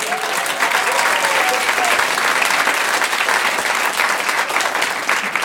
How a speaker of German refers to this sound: Dann euer Applaus für die Frage von Sascha Grammel.